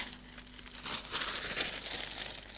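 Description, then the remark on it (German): A plastic bag of Lego crinkles and rustles steadily for a couple of seconds, a soft continuous crackling with no voices over it. “Also, hole ich mal ein anschauliches Beispiel hier. Eine Tüte Lego.”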